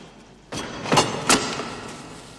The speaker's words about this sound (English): The fuse burns down, Booth runs into the cellar, and a shutter covering the escape tunnel is slammed in his face.